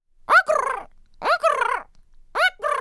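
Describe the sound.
A person's voice imitates a swan call: three loud, nasal honks about a second apart, each starting with a sharp upward yelp and trailing into a wavering, buzzy tone.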